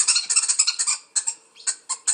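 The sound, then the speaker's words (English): A wood hoopoe's harsh, cackling call: a fast run of raspy chattering notes, then several separate bursts after a short pause, fairly loud with no voices. “The wood hoopee makes a sound that sounds like the word hoopee. Here it is.”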